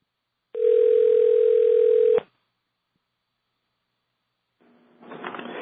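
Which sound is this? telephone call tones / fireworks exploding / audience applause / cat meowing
telephone call tones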